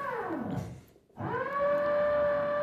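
A power drill drilling nearby: its motor whines, winds down to a brief stop, then spins back up to a loud, steady high-pitched drone. No one speaks.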